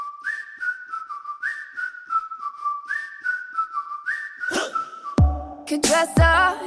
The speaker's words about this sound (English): Whistling. This is another song. I've heard it on the radio. I never noticed before. This features whistling very prominently.